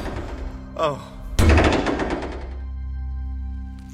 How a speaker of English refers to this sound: What's that noise? Something's trying to get through the bulkheads to this section.